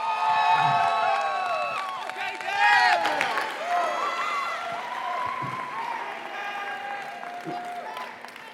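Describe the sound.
An audience bursts into sustained applause with cheering and whoops, many overlapping voices shouting over steady clapping, loudest near the start and holding fairly level for several seconds.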